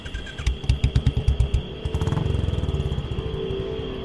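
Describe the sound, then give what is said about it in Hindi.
A motorcycle engine chugs in uneven, labored pulses, then settles into a quicker but still strained putter; the bike will not accelerate even though nothing seems to be wrong with it. No voices. “मेरी बाइक को क्या हुआ? सब कुछ तो सही है, फिर एक्सलेरेशन क्यों नहीं ले रही?”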